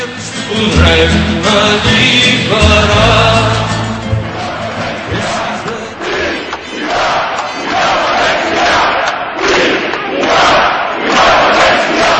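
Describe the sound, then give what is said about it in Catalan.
A large crowd marching through the streets of Barcelona on 10J shouts pro-independence political slogans in unison, a loud, dense roar that settles into rhythmic, repeated chanted bursts in the second half. “Els crits i les consignes independentistes van ser les que més van ressonar pels carrers de Barcelona aquell 10J.”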